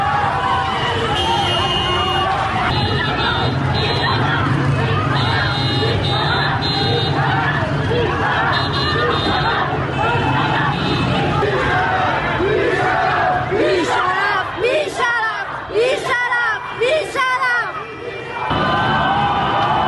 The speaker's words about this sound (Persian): جمعیت بزرگی در برابر بیمارستان کسرا جمع شدند. اعتراض مردمی با بوق میدان آرژانتین بیمارستان کسرا.